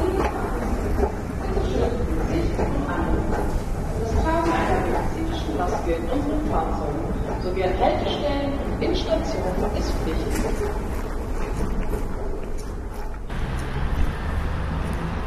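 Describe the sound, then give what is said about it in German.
A tram, line 2, rumbles loudly past in a street, a steady heavy mechanical roar with rattling that drops to a quieter hum near the end; faint voices blend into the street noise. “Laut rumpelt die Straßenbahn an mir vorbei.”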